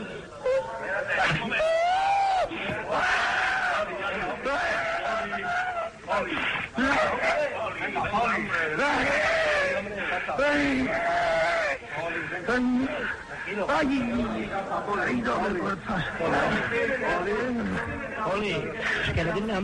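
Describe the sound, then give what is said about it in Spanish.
Injured football player Hipólito Rincón cries and sobs during a panic attack with a possible fracture as his shin guards and foot bandages are removed, heard on Antena 3 radio: a continuous stream of wavering, wailing whimpers and gasping breaths, loud and strained, with a murmur of other voices underneath throughout. “No, vamos a ver porque me están quitando las espinilleras y las vendas del pie y está llorando.”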